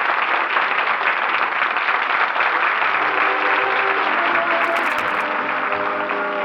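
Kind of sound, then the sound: crowd, theater audience applauding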